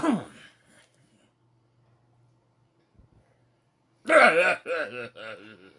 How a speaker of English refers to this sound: Sorry about his cough, guys. I didn't know he was about to cough, or else I would have paused so you guys wouldn't hear it.